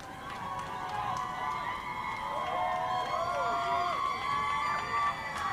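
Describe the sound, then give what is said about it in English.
A crowd cheers and shouts wildly as Adnan Syed walks out of the courtroom after being released, many excited voices overlapping in a loud, steady roar of high-pitched yells and whoops that carries on without a break. “And not long after that, we saw Adnan walk out of that courtroom after so many times, you know, being hopeful and having his hopes dashed, and the crowd went crazy.”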